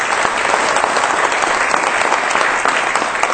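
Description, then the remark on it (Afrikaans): A crowd at a Monday evening church gathering applauds after praise and worship, clapping steadily for a few seconds, a dense, even wash of many hands clapping at full loudness with no pauses and no voices standing out. “Kom ons gee vir julle 'n groot hand klap.”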